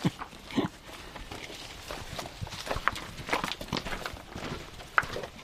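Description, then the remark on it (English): Several weka birds gather to feed on feral goat meat and moist bread, scurrying and pecking, their footsteps and scratching scattered irregularly, with a few brief squeaky calls breaking through. No one speaks. “God, there's weka everywhere”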